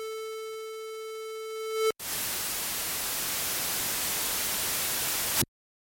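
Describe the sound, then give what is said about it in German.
A steady buzzing tone breaks off abruptly into loud, even radio static as a radio switches off after a crisis broadcast from Berlin is taken off air; the static hisses for about three and a half seconds, then cuts to silence. No voices. “Das Radio schaltet sich ab. Der Rest ist Rauschen.”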